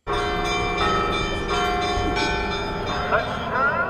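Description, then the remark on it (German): Church bells ring steadily in Jerusalem's Old City in a dense, overlapping peal with sustained, shimmering tones throughout, fairly loud, with faint crowd voices mixing in toward the end. “Kirchenglocken, Muezzinrufe und jüdische Familien, die ausgelassen tanzend Bar Mitzwa feiern.”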